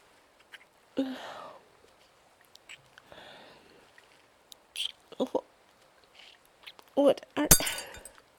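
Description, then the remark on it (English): Glass breaks and shatters near the end in a loud, sharp crash with bright tinkling fragments, following scattered quieter clinks and murmur-like sounds earlier on. “Glass shard again. You really gotta be more careful, sir.”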